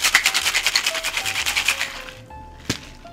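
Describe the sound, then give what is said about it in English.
Ice rattles hard in a closed cocktail shaker tin as a cocktail made with a star anise, cinnamon, clove, allspice and Szechuan peppercorn syrup is shaken, in a fast, steady rhythm of crunchy shakes for about two seconds, then stops, followed by a single sharp clack. “And then we will fill our shaker tin up with ice, make sure it's closed, and we'll shake.”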